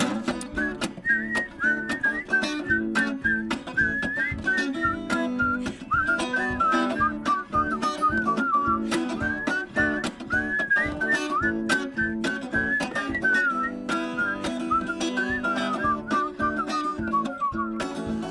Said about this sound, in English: Oh, here we go. Okay, everybody whistle.